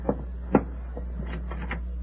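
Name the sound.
door being opened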